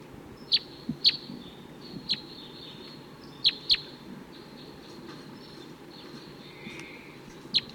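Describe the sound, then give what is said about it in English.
Wild male birds calling from nearby treetops give short, sharp, high-pitched chirps, about seven scattered irregularly, some in quick pairs, over a steady low rumbling background hiss. “They're still around, calling from the nearby treetops.”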